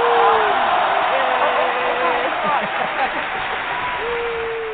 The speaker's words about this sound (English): And the crowd grows wild.